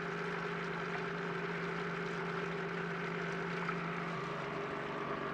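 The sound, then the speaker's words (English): A steady mechanical drone with strong low harmonic hum and a broad rushing wash as a pump, started with a lever near the floor at the back, drains the water out of a machine, continuous and unchanging with no talking. “takes quite a long time to empty all the water in this machine.”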